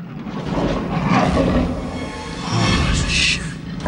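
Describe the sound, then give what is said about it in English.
A lion in a cage roars loudly in a long, rough, sustained growl that swells twice over a few seconds, with a gritty, rumbling texture and no other voices. “Diggs looks around and sees a lion in the cage with him.”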